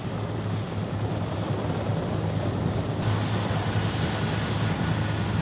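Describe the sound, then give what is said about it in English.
A steady, loud mechanical drone with a deep humming engine tone from naval helicopters of the American 7th Fleet shuttling people out of an embassy in Vietnam, continuing without pause and with no voices. “From midday to past midnight, a constant shuttle of naval helicopters from the American 7th Fleet airlifted out of that embassy more than 5,000 people.”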